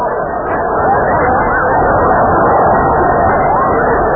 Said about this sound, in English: The crowd's going mad.